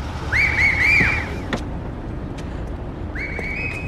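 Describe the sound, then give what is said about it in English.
Two shrill, warbling whistle blasts, the first about a second long and the second starting near the end, sound over a steady wash of street and traffic noise. No one speaks. “Those are the whistles. It's for us.”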